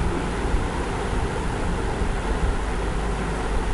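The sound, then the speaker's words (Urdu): A steady, dense roar of ocean surf fills the whole recording, broad and rushing with only slight swells in loudness and no voices. “یہ سمندر کی موجوں کی روانیاں، ہیبتناک آوازیں”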